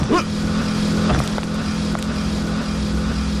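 A small moped engine drones steadily on a street with a buzzing, motor-like hum and some rushing road or wind noise, staying fairly loud for the few seconds heard.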